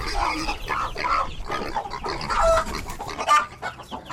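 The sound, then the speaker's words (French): The farmyard of a house in Nicaragua stirs at 5 a.m. as day breaks: a busy, continuous chorus of clucking fowl and rough, pig-like grunting calls, lively, with no one speaking. “À 5 heures, la basse-cour de notre maison d'un jour s'agite, et avec elle, cette curieuse impression que des cochons ont envahi le sol.”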